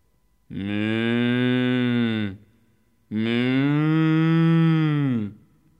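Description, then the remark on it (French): Two long, loud moos from huge black-and-white horned cows, each lasting about two seconds with a short pause between them, with no other sounds around. “Ce sont des vaches.”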